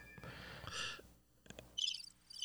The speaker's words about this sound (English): I'm going to do that cricket sound effect.